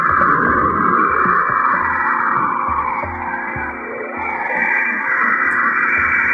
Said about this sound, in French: Il y a Saturne qui est très joli parce que Saturne, il y a plein de données de Cassini près de Saturne. Il y a les sons fantomatiques.